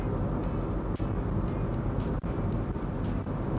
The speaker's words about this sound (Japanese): ちょっとじゃあ本格的に追い越していきます。そうすると皆さんにとってはうるさくてしょうがないっていう、まあ今に始まったことじゃないけどね、ここしばらくうるさい音声しか流してないですよね。